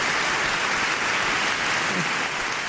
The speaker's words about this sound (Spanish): Y con este aplauso respondió el pueblo de Dios a la emoción de su pastor al recordar a su familia y de modo especial a su difunta madre Consuelo.